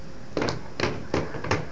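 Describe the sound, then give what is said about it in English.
Four or five sharp knocks land in an uneven rhythm on a shower door, each a bright, resonant bang like a hand striking glass. The bangs are moderately loud, with no talking. “Can you bang on the shower door?”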